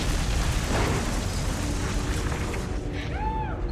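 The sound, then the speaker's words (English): Chris's truck explodes with a powerful, sustained, rumbling low-end blast, followed by crackling debris and a few whistling, falling tones as the burst dies away. “Chris's truck explodes.”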